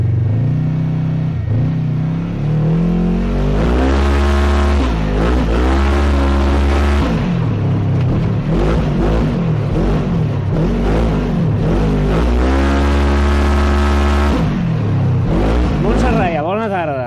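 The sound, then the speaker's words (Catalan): A loud Polaris Ranger RZR XP1000 off-road buggy engine revs again and again on a dirt circuit next to the Palau Sant Jordi during an off-road rally, its pitch climbing and dropping in repeated surges with a steady low rumble underneath. “Aquí hem pogut circular amb aquest buggy, el Polaris Ranger RZR XP1000”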